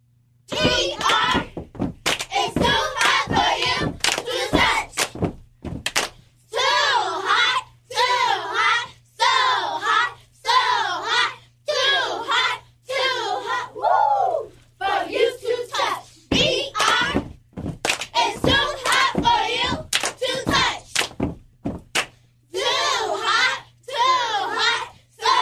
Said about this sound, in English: The ladies from Betty Ray Thomas, the Cheerleader Squad, is in the building. Hey, ladies. And if you want to check them out, we are live on our Facebook page at Power 98 FM, and they have another cheer for us. Let's go.